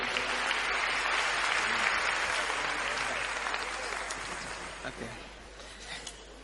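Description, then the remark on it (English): A large audience at Festival of Life applauds people coming forward to give testimony, a dense wash of clapping that holds strong for several seconds and then gradually thins and fades toward the end. “Please clap for them as they come.”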